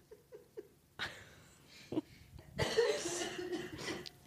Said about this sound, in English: I wish this cough would go away because I can't laugh without coughing. I mean, podcasting's your livelihood. This cough's going to take you down.